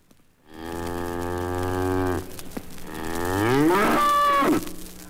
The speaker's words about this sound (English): This is Carmelita, the Talking Cow store display record.